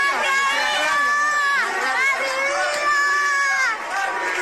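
A crowd of many voices shouts and chants together in a loud, continuous din, the overlapping cries rising and falling with no pauses, as if protesters were chanting slogans in the street.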